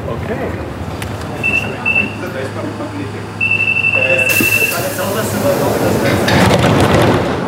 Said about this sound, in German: Ungefähr dieses alte U-Bahn-Modell, was in Hamburg fährt, von außen geriffelt, ist aber breiter. Und hier drinnen haben die anderen auf jeden Fall sich Mühe gegeben, ihren Namen sich zu verewigen.